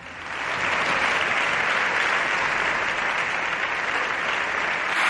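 Sustained applause from the PSOE's packed Socialist bench in the Congress, its 120 deputies and some senators clapping as the President of the Government is given the floor: a dense, steady wash of many hands that swells in quickly and holds loud and even for several seconds, with no one speaking over it.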